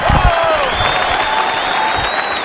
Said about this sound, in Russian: Сегодня мальчики клаустрофобы лениво вам аплодируют.